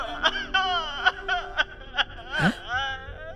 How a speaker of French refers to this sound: On dirait qu'il y a quelqu'un qui pleure. Très fort!